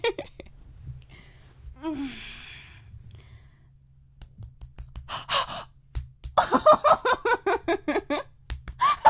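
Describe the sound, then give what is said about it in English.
Quick, rhythmic run of sharp hand slaps on the speaker's clitoris, fairly loud, about a dozen in a row, preceded by soft gasps and breathy sighs. “I gotta do some slaps on it.”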